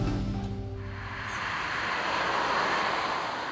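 Steady roar of traffic on the B179 road between Märkisch-Buchholz and Königs-Wusterhausen, starting with a low engine hum that gives way to a broad whooshing wash of passing vehicles, fairly loud and continuous with no voices.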